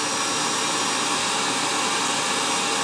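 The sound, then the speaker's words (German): A loud, steady roar from a vacuum suction station running at maximum power to pull out cat hair, a broad, rushing hiss across the whole clip, holding constant intensity without pauses or changes in pitch. No one speaks. “oh fuck, jetzt wird's laut. Absaugstation.”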